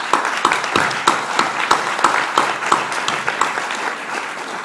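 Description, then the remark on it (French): Audience applause for a man just elected world president of an organization, a steady patter of many hands clapping with a few sharper, louder claps standing out at a fairly regular rhythm, sustained at an even level throughout. “Il en a été élu le président mondial, et pour ceci, je voudrais qu'on l'applaudisse, parce que c'est vraiment une première.”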